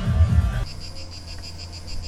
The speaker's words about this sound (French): Vous entendez le calme des cigales de Néoul.